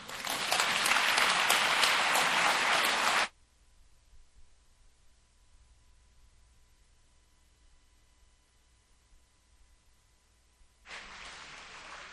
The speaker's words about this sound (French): Un, deux. On applaudit.